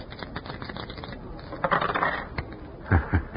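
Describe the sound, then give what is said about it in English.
A pair of old dice rattle and tumble across a hard surface, a quick clatter followed by a few sharp clicks as they bounce and settle. “See, you have still got those old dice.”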